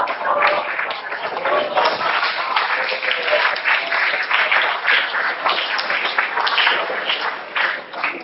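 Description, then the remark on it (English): An audience claps steadily for several seconds, a dense, even wash of many hands with no break and no voices standing out above it. “Well, don't clap me, clap Dan Simons.”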